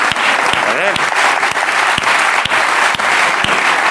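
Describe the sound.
Sustained audience applause, a dense crackle of many hands clapping steadily and loudly throughout, with a brief voice rising faintly underneath partway through.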